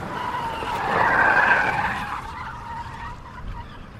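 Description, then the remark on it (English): A car's engine roars in a garden as its tires squeal sharply on an asphalt road, the screech swelling to a peak in the first couple of seconds before fading into a rumbling drive-away. No voices. “I heard the roar of his car in the garden, the tires squealing on the asphalt road.”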